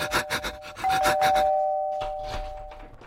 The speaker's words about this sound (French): alors il court chez son voisin. Il sonne.